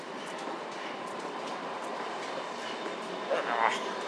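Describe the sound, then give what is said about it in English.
A train rolls past with a steady, even rumble and hiss that fills the whole clip, and a brief higher-pitched squeal rises near the end. “Well, a train has just gone.”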